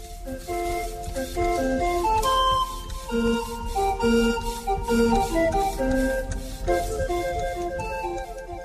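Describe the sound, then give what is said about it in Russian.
A portable barrel organ at an organ grinders' festival in Prague plays a bright, steady tune of sustained piped notes and chords, with a constant breathy wash of air from its bellows feeding the pipes beneath the melody and no voices. “То, что вы слышали, это работа меху, который там есть, который дает воздух до пищал.”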